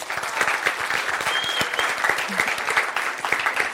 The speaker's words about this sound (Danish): Lad os give dem begge to en stor hånd.